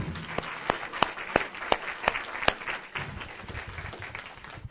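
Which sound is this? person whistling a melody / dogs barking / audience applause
audience applause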